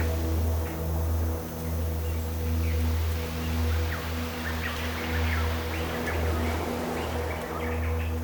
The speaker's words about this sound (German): Und wir können auch die Vögel hören in dem Wald hinter uns.